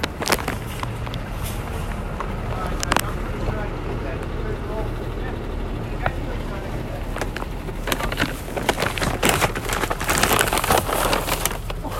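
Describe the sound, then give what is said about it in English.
A tow truck's engine rumbles steadily right behind the listener outdoors, a low continuous drone with sharp clanks and bursts of noise breaking through, plus faint voices in the background. “Gosh, it's a tow truck out here.”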